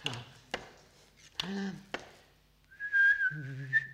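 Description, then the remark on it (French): A few sharp knocks and a brief buzzy tone, then a person whistles a steady high note that a lower, resonant tone joins partway through, making two frequencies sound at once. Fairly loud. “Et alors je peux faire ça en sifflant aussi.”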